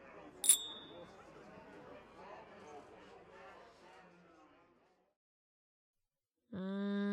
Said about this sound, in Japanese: 貴様も飲め。酒が飲めないわけではないんだろ。ほらほら、乾杯。